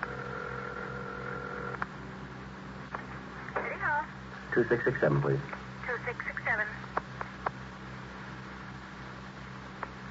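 A telephone in a hall being dialed, with a steady tone at first, then scattered clicks and short warbling bursts over a low background hum.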